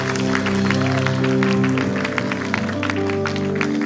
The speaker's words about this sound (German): Komm, wollen wir Gott einen Applaus geben? Er ist gut und er ist hier.